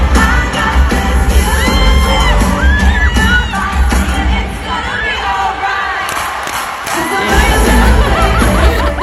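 A dense crowd screams and cheers over loud music, with scattered shouts, whoops and clapping running continuously through the whole stretch at a steady, loud level.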